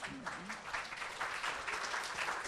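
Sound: audience applause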